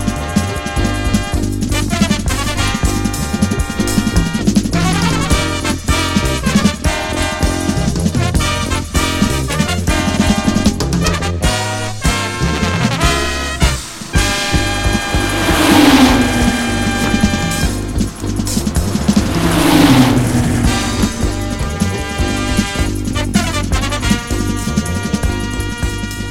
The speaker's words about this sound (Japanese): どうだ、この迫力。これがポルシェ934ターボエンジンの響きだ。手に汗握る緊迫感、真っ赤なボディから吹き出るジェットエンジン音にも似たこの金属音はターボエンジンならではの魅力。